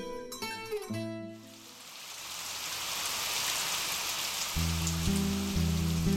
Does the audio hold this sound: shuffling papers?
no